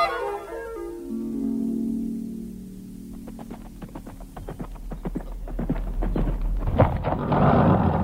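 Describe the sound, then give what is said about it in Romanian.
Hooves of an arriving stallion clip-clop in an irregular series of sharp knocks, growing denser and louder as the horse approaches, with a low throbbing hum underneath and no voices. “Cal străin, înseamnă că avem veste de la fratele nostru Damian, de la Lioj.”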